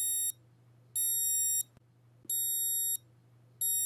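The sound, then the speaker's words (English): A smartphone-controlled alarm wristband sounds its high-pitched electronic alarm tone in repeating bursts, about four pulses each lasting around half a second, over a low steady hum with no talking. “If you'd like, you can set it to activate a tone.”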